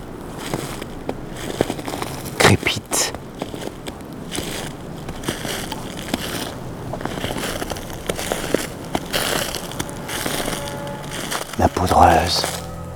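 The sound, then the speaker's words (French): Footsteps crunch steadily through powdery snow mixed with a carpet of dead leaves, sheltered from the wind in the cold, each step a crisp, crackling rustle repeating at an unhurried walking pace. “mélangée au tapis de feuilles mortes.”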